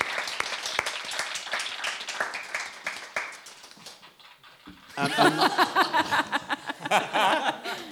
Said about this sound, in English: Can we have some applause? You stopped clapping. Sorry.